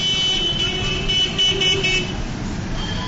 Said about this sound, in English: Despite the seemingly chaotic system, I didn't see any accidents. As far as traffic rules are concerned, it seemed as though anything goes as long as it is accompanied by several blasts of your vehicle's horn.